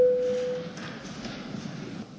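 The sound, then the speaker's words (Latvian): A single steady electronic signal tone, the voting bell of the Latvian parliament (Saeima) rung before a vote, sounds clearly for under a second, then fades into a quiet hall murmur. “Lūdzu zvanu.”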